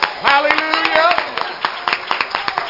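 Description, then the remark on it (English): A church audience claps together in quick, uneven bursts as praise to the Lord, many sharp hand claps blending into steady applause while a voice calls out over it. “Let's give the Lord a great hand clap of praise.”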